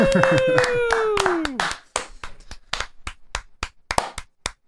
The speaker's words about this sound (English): Woo! Slow clap. Hell yeah.